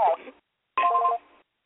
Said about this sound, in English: And answer the phone. I'm going to call you right back.